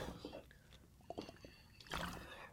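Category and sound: food or drink, sipping water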